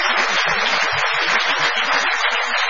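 Steady audience applause welcoming Dolina fills the whole stretch, dense and continuous clapping from many hands at an even volume, with no voices standing out.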